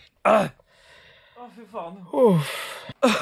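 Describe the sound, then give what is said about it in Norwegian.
Someone clears their throat in short, rough bursts at the start and end, with wavering voiced vocal noises and a longer harsh rasp in between. “Du kremter en gang til, og så dreper jeg deg.”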